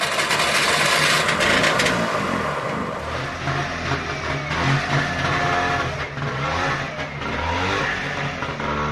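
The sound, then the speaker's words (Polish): A Trabant car engine is started and runs loudly and steadily, a buzzy rattling rumble whose pitch rises and falls with revving across the whole stretch, with no voices. “Słynne odpalanie Trabanta, każdy pamięta ten dźwięk, ja nie będę go robić, bo ja nie umiem, ale dźwięk ciekawy jest w każdym razie, odpalanego Trabanta.”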